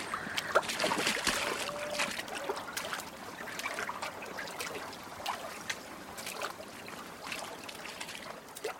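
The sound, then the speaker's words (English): Floodwater that came up suddenly trickles and splashes continuously, with scattered sloshing bursts like feet or a boat moving through the shallow water, moderately loud throughout. “The water came up so sudden.”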